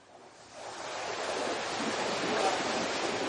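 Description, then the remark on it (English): Broad, steady rush of sea waves around a sailing ship at sea, swelling gradually louder, with a faint wind-like hiss throughout and no voices. “Imagine you've run away to sea on a sailing ship.”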